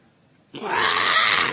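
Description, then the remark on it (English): A voice imitates a vulture's scream: after a brief quiet moment, a single harsh, raspy, growling screech bursts out loudly and holds steady for about a second. “Did you ever hear them scream? They're not like cuckoos or nightingales.”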